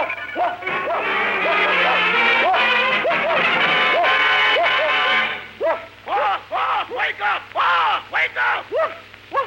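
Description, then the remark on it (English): A man's voice imitates a dog's barking, with a run of loud, rhythmic woofs, first over a dense background, then as separate sharp barks in quick succession. “Stop calling me a dog. I'm not a dog. I'm just as human as you are. Listen to me. Woof, woof, woof, woof.”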